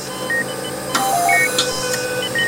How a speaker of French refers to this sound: C'est un concert d'alarme permanent. Il y en a des centaines par jour. En plus, elles n'ont aucune hiérarchie. Elles veulent toutes capter l'attention en même temps.